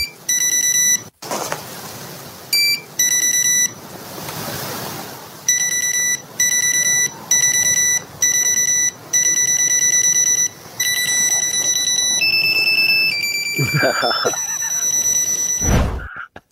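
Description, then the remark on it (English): An old-school electronic dance tune, played in a name-the-tune game, picked out in bright, buzzy beeping keyboard tones: short rhythmic pulses in quick repeated bursts, shifting pitch near the end, with a couple of low thumps at the close. “That one actually sounded like someone was playing it on the keyboard.”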